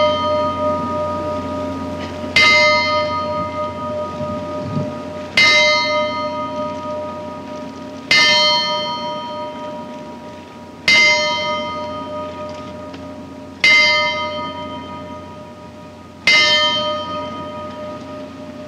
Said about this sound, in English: The bell is rung in memoriam for people who were lost at sea. In this case, of course, the sea of space.